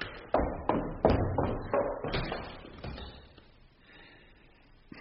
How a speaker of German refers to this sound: Zuschließen! Schließ doch zu! Ich schließ die Tür ab!